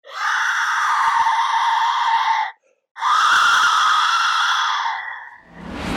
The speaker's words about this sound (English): Now just try to imagine. You're standing on a field. You're getting ready to attack, and you hear thousands of whistles that sound like women screaming in pain.